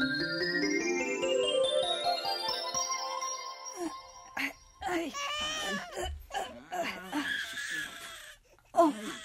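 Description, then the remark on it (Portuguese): A child's loud, drawn-out wail rises steadily in pitch for about four seconds, then stops as people begin talking. “Você não está notando que até o choro desta criança é redondo?”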